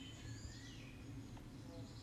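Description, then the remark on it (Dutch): Soft birdsong in nature, thin whistled chirps rising and falling over a low, steady outdoor hum. No voices, just quiet natural ambience. “Je kan nog eventjes doorwandelen en luisteren naar het geluid van de vogels en kijken naar de natuur om je heen.”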